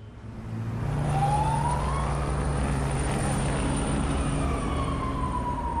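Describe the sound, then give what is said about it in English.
A police car speeds out of a temporary police station in Dipsluit, its engine and road noise loud and steady, with a siren wailing in rising and falling sweeps over the rumble. No one speaks. “A police car speeds out of the temporary police station in Dipsluit.”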